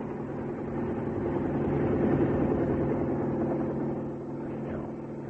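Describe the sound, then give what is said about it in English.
A helicopter's low, droning engine rumble swells as it passes overhead, peaks, then eases slightly as it moves off, a steady continuous mechanical hum with no voices. “Do you hear that? It's a helicopter.”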